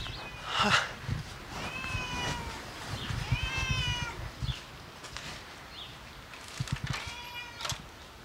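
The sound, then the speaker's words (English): A black cat named Midnight meows several times in a row at a clubhouse, drawn-out, rising-and-falling cries spaced a second or so apart, fairly clear over a low background rumble. “As we walked up to the clubhouse, a black cat named Midnight came up and rubbed against my legs.”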